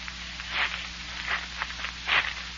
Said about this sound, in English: Mysterious footsteps are approaching Jack Armstrong and Billy as they wait in the darkness of a hillside tunnel in the wild Zamboanga Peninsula.